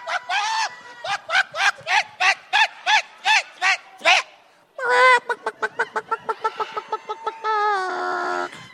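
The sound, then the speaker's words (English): A chicken squawks loudly: about a dozen evenly spaced harsh cries, a short pause, then a faster, frantic run of squawks ending in a drawn-out call. “Can chickens get COVID?”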